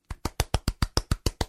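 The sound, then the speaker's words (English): A slow, steady run of about ten soft hand claps from a single person, evenly spaced and moderately loud, with no voices. “That's a golf clap, by the way.”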